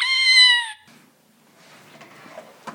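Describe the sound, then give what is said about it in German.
A kitten in a kitten nursery gives one loud, high-pitched meow, then quieter rustling and faint soft sounds follow, with a brief sharp noise near the end. “Und jetzt geht's direkt weiter in der Katzenkinderstube.”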